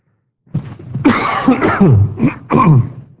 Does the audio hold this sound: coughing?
yes